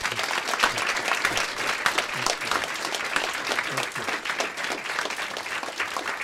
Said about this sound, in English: The applause went on and on, but that's more than just a courtesy clap. These teenagers were really moved by Mr. Starr's story.